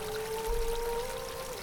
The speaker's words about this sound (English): thin wisps of crystal clear water flow around the walls, providing the only sound inside the stone walls